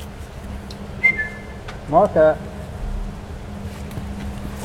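A zookeeper whistles to call king penguins in front of the vivarium on an early February morning at about 5 degrees: a thin high note, then two louder, quick whistled calls in a row, set against a steady low rumble of background noise.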